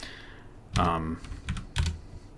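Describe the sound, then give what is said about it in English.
Crisp clacking of keys on a mechanical keyboard, picked up by a microphone on the desk as someone types to look something up: a few sharp keystrokes struck in an irregular burst, loud against a quiet background. “Not only do I have a mechanical keyboard, I have a microphone that kind of picks up everything.”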